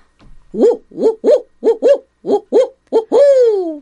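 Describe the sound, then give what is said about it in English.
A person imitates a barred owl, giving a loud series of rhythmic hooting calls that ends in one long, drawn-out hoot sliding downward in pitch. “I as a barred owl will certainly hoot my way.”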